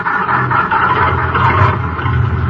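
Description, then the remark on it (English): An old taxi cab engine rumbles loudly, a rough, steady mechanical drone with a low throbbing hum that holds at a constant level throughout, with no voices. “Fish those keys out of your pocket and get this bucket of bolts going.”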